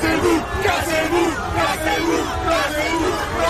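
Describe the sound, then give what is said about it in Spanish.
A large protest crowd in Paris, at the Monument de la République, shouts and yells at police officers who have grabbed two people, in loud, continuous waves, many raised voices overlapping in angry chanting and cries, including ACAB chants, with a dense babble underneath. “Han salido algunos agentes a agarrar a dos personas y se les ha echado encima a la gente con gritos, como escucháis, de largaos y el famoso ACAP, todos los policías son bastardos, que siempre sale a relucir en todas las manifestaciones.”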